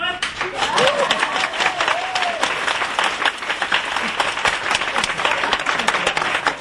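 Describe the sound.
A large audience applauds steadily and loudly from start to finish, dense rapid clapping filling the space, with a few cheering voices or whistles rising out of it early on.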